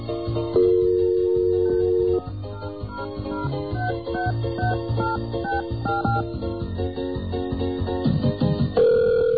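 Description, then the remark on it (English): A telephone call that does not go through, heard over the line: a steady electronic tone, then a long run of short, mid-pitched beeps and tones, thin and band-limited, with no one talking. “Sorry, your call did not go through.”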